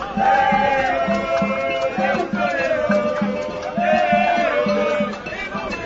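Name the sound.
large crowd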